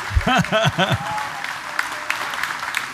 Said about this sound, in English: All right, a big round of applause